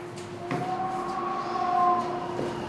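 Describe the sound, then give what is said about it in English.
An enormous 2-foot-thick, 8-ton steel blast door in an underground bunker grinds open with a steady mechanical rumble and sustained metallic whining tones, punctuated by a couple of dull clunks, with no voices. “opens an enormous 2-foot-thick blast door, 8 tons of steel.”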